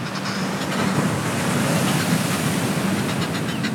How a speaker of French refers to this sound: On n'est pas loin de recevoir une petite gifle là des vagues. Hein, ouais. Et elle a ses yeux verts là. C'est presque la Manche.